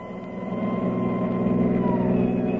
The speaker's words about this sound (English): Many's the time Kildare rode with me in this ambulance.